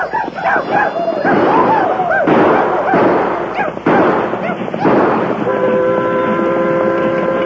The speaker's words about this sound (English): Better let them know. Yeah. Let out a few yells and shoot off a few cartridges.